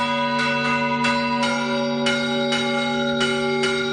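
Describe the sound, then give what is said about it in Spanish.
Large church bells of the Micalet tower of Valencia Cathedral in Valencia, Spain, rung by hand by a cathedral bell ringers' association, ring out in overlapping peals, with strikes every half second or so and a sustained, shimmering hum between them, loud and resonant with no voices. “destacamos la posibilidad de ver en directo este fin de semana el toque de campanas de la Torre del Micalet, gracias a la Asociación Cultural Campaners de la Catedral de Valencia, que ejecutan estos toques manuales”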